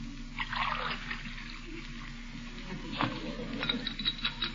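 A spoon stirs a glass of water, with light repeated clinks against the glass over a soft watery swish and faint room noise, no voices.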